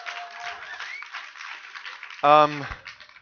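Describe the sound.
An audience applauds steadily, a dense wash of clapping throughout, broken near the end by a short, loud voiced call from someone in the crowd.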